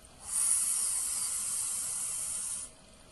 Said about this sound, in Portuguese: Coloque os seus lábios no formato da vogal U, arredondando os seus lábios. Isso. Agora, coloque a mão levemente no seu gogó e com esse ligeiro biquinho do U de uva, suga o ar como quem suga um espaguete.